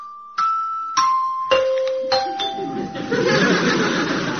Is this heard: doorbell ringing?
yes